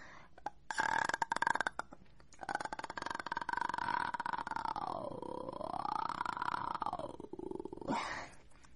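A voice holds a long, rattling vocal fry for several seconds, its creaky pulses grinding steadily while the pitch wavers, dips and rises again, then ends with a short breathy burst.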